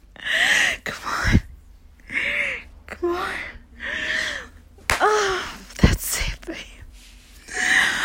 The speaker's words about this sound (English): Slap my ass just like that while I ride you. Oh. Come on, white boy. Oh, give me another slap.